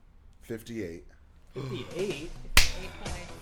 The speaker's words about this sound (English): Slapping hands.